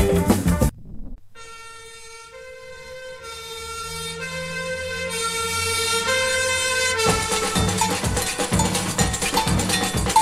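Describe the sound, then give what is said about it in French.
At night in Rio, a fire siren calls all the firefighters to a burning coffee factory, wailing in a long sustained tone that swells steadily louder for several seconds, then gives way abruptly to loud, rhythmic band music with heavy percussion. “Nuit, une sirène appelle au feu tous les pompiers et tout Rio qui se réveille voit brûler l'usine de café.”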